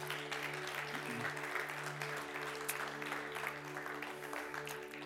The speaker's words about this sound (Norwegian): Tusen takk til deg som fulgte oss online i dag. Gud velsigne deg, og vi ses igjen. Skal vi gi dem en applaus, de som fulgte oss i dag?